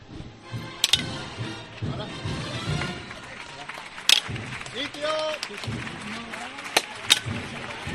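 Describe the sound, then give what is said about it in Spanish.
Several sharp wooden-metal knocks from procession bearers' forks (horquillas) striking the street during the night procession of Jesús Nazareno in Cádiz, Spain, spaced irregularly, a couple close together near the end, over a steady murmur of crowd voices and chatter. “Y mira qué sonido más particular, el sonido de las horquillas.”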